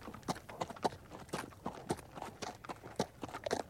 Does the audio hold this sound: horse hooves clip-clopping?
yes